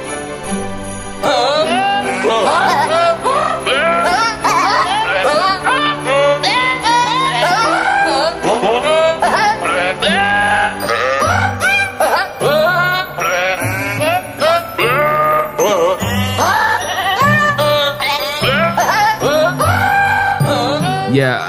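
Screaming goat samples from the classic Screaming Goat meme are pitched into a melody, bleating and wailing one after another over a steady, loud musical backing with bright bell-like tinkles, running continuously as a song.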